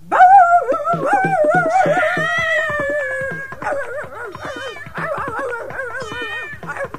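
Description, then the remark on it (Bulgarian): An angry dog howls and barks at a small kitten that was lapping from its bowl, starting with a long, loud wavering howl, then breaking into choppier, rising-and-falling yowls and snarls. No one speaks. “Брей, че лошо куче, каза си луната.”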